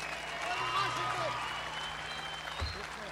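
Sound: audience applause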